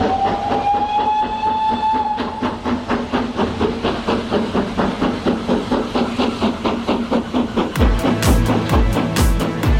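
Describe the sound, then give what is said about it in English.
A train sound effect introduces the July 2025 New Music Train segment. It is a steady rhythmic clatter of wheels over rail joints, with a long whistle tone at the start and a heavier chugging burst near the end, loud. “And that means you're about to hear this as we roll on the July 2025 New Music Train.”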